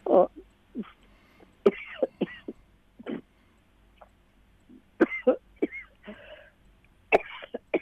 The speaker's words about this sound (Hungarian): Bocsánat. Semmi baj. Illetve hát nem örülök, hogy köhög, de megvárjuk.